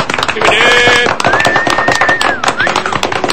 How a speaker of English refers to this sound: Listen to that crowd.